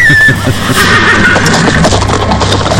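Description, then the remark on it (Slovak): A horse neighs loudly, a shrill whinny as it bolts, over a rumbling, busy background that lasts the whole few seconds, with no one speaking. “Vtedy sa mi náhodou splašil kôň a odbehol som od cisára.”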